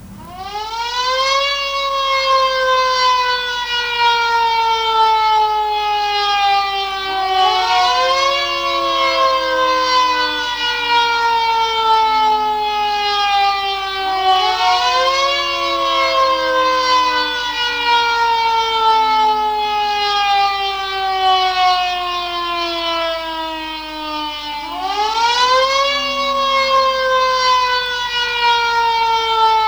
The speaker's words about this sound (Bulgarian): Сирените в цялата страна известяват минута мълчание в памет на героите.